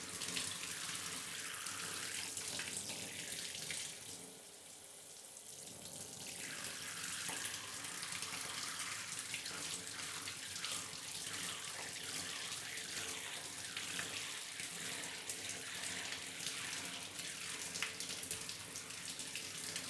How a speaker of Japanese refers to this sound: よし、じゃあシャワーで流すからまだ目はつぶったままでいて。熱くない？うん、じゃあこれくらいで泡泡を全部流します。